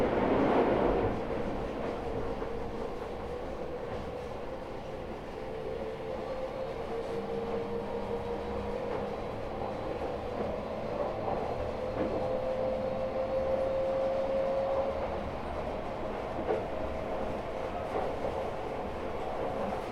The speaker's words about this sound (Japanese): 事故防止のためホームでは電車から離れてお歩きください。